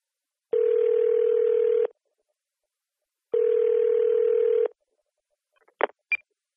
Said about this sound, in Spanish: Llamas por teléfono a la librería Cervantes para pedir información sobre un libro.